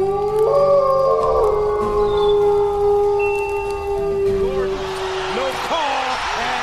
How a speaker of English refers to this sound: First came a pack of wild timber wolves.